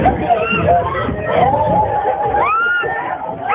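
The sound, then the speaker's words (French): A classroom of about thirty high school students, mostly girls, erupts in panicked screaming as a big bumblebee enters through the window, high shrieks rising and sliding over a dense, continuous babble of frightened voices, loud throughout with no pause. “Alors je voudrais d'abord vous faire écouter comment une trentaine de lycéens et en très grande majorité des lycéennes réagissent quand un gros bourdon entre par la fenêtre de la classe.”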